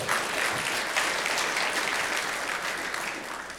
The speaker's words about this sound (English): And if you want to hand clap, you can hand clap. Amen.